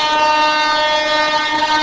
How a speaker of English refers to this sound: Are we going to wait for the train to go by? This is the curse, man. The train is a curse.